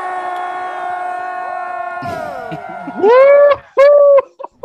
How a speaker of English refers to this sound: a bunch of Packers fans, and you know they were yelling rowdy throughout the interview